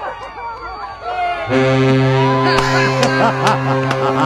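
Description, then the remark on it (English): A freighter ship horn from a freighter on a river near Cleveland, about 60 yards offshore, sounds one long, deep, steady blast that starts partway in and holds to the end, loud over a murmur of crowd chatter with a few sharp clicks. “The boat says, thank you.”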